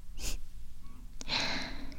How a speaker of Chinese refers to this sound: 怎么学长喘成这个样子呀？